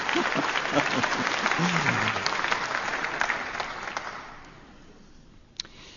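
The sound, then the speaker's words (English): An audience breaks into loud, dense clapping that carries on for about four seconds before thinning out and fading away, in response to a preacher saying they are ready to die for the cause of Jesus. A voice is faintly audible under the start of the applause. “I thought you could have clapped there, but if you're not ready to die, then don't clap.”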